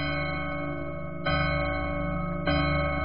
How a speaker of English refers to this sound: The chimes! The witching hour is nigh! Run, Cinderella! Heavens, I must fly!